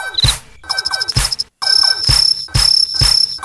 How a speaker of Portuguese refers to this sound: ele é o irmão cri, cri, cri, cri, cri. É, meu irmão, dorme com um grilo desse.